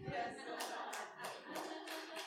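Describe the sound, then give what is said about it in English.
A church audience claps for the Lord during a sermon, in a steady rhythm, with about five evenly spaced accented claps riding over a continuous wash of scattered hand claps. The applause is fairly soft. “Yeah, clap for the Lord, amen.”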